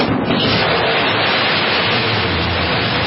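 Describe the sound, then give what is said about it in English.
A Blue Origin New Shepard rocket engine roars at liftoff from West Texas, a loud, steady wall of rumbling, hissing noise that holds unbroken for about three seconds with no voices. “After being delayed for a day for weather, the Blue Origin's New Shepard flight has launched from West Texas.”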